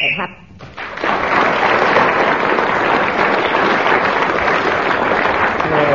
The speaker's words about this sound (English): Sheila Hancock was then speaking when the whistle went.